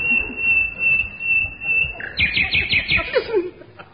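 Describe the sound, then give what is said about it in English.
An English songbird sings loudly: a long, steady whistle, then a quick run of bright repeated chirps that slide down at the end, over a murmur of background noise. “An English bird in full-throated cry.”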